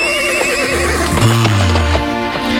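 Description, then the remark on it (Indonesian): A horse whinnies loudly, its wavering neigh rising and falling, while hooves clop in the background at a steady pace, as a rider takes the horse from the stable and mounts the saddle. “Dia mengambil seekor kuda yang biasa ditungganginya, lalu dengan sigap naik ke atas pelana.”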